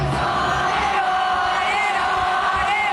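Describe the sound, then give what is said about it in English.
A huge crowd at a rock concert at NRG Stadium in Houston keeps singing after the stage power goes out, a loud, sustained roar of massed voices filling a large space without pause and with no instruments standing out. “The crowd continued singing, then crew members rushed the stage with a fire extinguisher and everyone was evacuated.”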